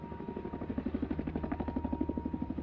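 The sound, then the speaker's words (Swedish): A search helicopter flies overhead as the FBI and local police search the terrain, its rotor producing a steady, rapid thudding pulse with a low engine drone underneath, moderately loud, with no one talking. “FBI tillsammans med den lokala polisen knackar dörr och genomsöker terrängen till fots och med helikopter.”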